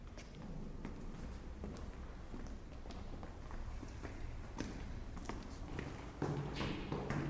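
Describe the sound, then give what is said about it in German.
Footsteps descending a few stairs past portraits on the way back to room 113, at a steady, even pace, each step a soft knock over a low background rumble, with no voices. “Vorbei an den Porträts, ein paar Stufen nach unten.”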